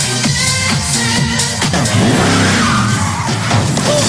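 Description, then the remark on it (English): A 1969 Valiant Pacer skids loudly, tires squealing in rising and falling whines over a dense roar of engine and road noise, and hits a government car; no voices. “You just hit a government car.”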